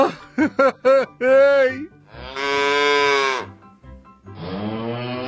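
A cow moos: a quick series of short, clipped lows, then three long, drawn-out moos with brief pauses between them, loud and clear with no talking; the cow is milked by a poor farm labourer in the countryside.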